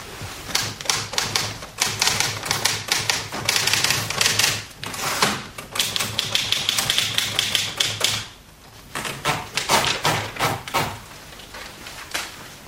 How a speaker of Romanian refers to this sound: Ai terminat de bătut la mașină scrisoarea? Mai am câteva cuvinte.